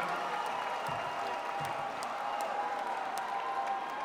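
Concert audience applause in Alabama for a band, a dense, steady wash of many hands clapping with a faint crowd murmur, holding at an even level for about four seconds.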